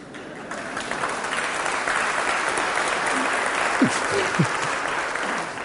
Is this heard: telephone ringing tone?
no